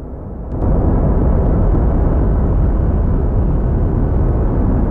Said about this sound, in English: The noise of thunder comes from vast electrical storms flashing in the planet's atmosphere.